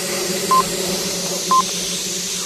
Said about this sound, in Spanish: Tinc la mala pata que ha coincidit amb els senyals horaris. Li ha trepitjat la imitació.